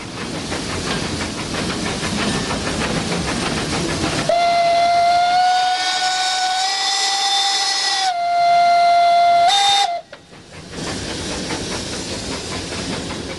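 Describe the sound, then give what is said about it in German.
A steam locomotive arriving in Oberwald chugs and hisses, then its whistle blows a long, steady, high tone for several seconds, rising briefly in pitch before cutting off, followed by renewed hissing and rumbling. “Der Dampf funktioniert, unten sind wir.”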